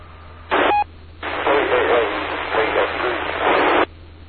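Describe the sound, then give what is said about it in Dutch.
A faint radio transmission comes through heavy hissing static, with a brief burst and short tone near the start, then a longer stretch of noisy, barely distinguishable voice-like signal. “BFQ, wat in de ruis.”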